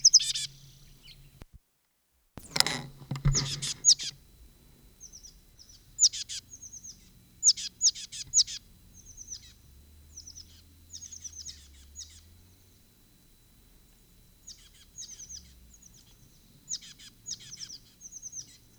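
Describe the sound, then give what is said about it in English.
A bird on a conspicuous perch at the west end of a bench south of a school sings at 7:53 in repeated bursts of short, high-pitched chirping phrases, broken by brief pauses, with a sharp thump early on and no voices. “Bird on conspicuous perch.”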